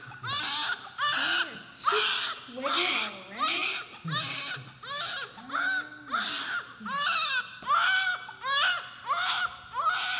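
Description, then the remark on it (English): A newborn baby cries loudly and steadily, in repeated rising-and-falling wails roughly every second, each burst followed by a short catch of breath, with no talking. “Can you imagine Jesus as a newborn?”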